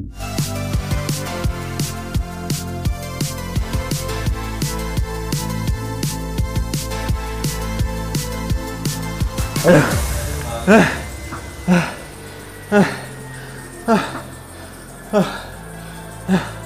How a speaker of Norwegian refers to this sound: Oi, oi, oi, det der hørtes tungt ut. Virkelig. Det var altså lyden av en VO2 max-test. Og jeg må innrømme at jeg egentlig forestiller meg at det hørtes tungt ut, for det har ikke skjedd enda.